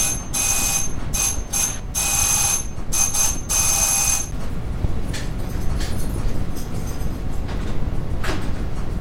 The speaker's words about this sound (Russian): О, тихо, кто-то звонит в дверь.